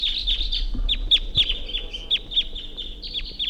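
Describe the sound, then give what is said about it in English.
A wild bird up in a tree chirps in a rapid, steady string of short, high-pitched notes that repeat almost without pause, over a low background rumble with occasional soft knocks. “Wild bird took off.”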